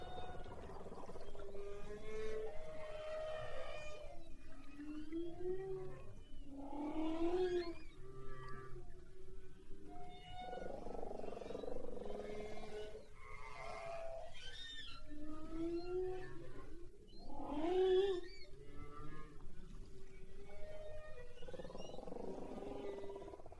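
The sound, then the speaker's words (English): Underwater humpback whale song: long, sweeping moans and rising whoops repeat in slow phrases over a steady hiss of ocean noise, with no voices present. “Let's listen to this recording of the humpback whale.”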